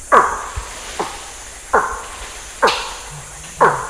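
A small monkey species found in Nigeria gives its alarm call against eagles: five or six loud, harsh, bark-like calls, each a sharp burst sweeping downward in pitch, repeated at uneven intervals of about a second, with no talking.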